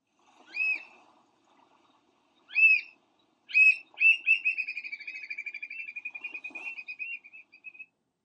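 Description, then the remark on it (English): American oystercatcher calling loudly: three sharp, separate piping whistles, then a long, rapid run of shrill piping notes that rolls on for several seconds before stopping. “You may hear the oyster catcher's call when visiting Ocean City and Assateague this summer.”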